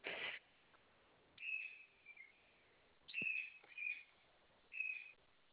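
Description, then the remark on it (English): A pet bird gives a series of short, high, whistled chirps in bursts separated by brief pauses, clear, with no talking over them. “Oh, sorry, your bird took all my bird off.”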